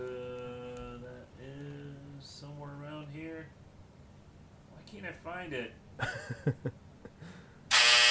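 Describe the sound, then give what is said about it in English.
A harsh, steady buzzer drones in short bursts, mixed with warbling, voice-like tones, before a loud, abrupt blast of noise cuts in at the very end. “No, that was a buzzer.”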